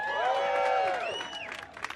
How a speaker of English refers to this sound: I heard that cheer. We can do that.